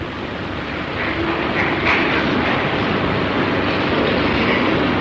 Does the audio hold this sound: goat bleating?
no